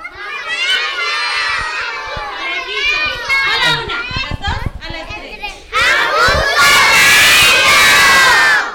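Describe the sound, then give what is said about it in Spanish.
A group of children shout together in unison, chanting a phrase in a loud, high-pitched chorus. After a brief dip near the middle, the collective yell surges louder and fuller for the final few seconds. “Necesitamos que todos griten juntos Ajusco Radio.”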